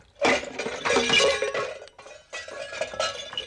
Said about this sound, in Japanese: すると川上からけったいなカンカラが転がってきよったわ。